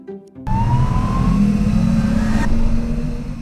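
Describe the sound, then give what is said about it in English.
A bus engine starts up abruptly and revs loudly, holding a steady rumbling drone with a rising whine as the bus pulls away, with no voices. “You're on the Brain Bus. I'm Nova, your driver.”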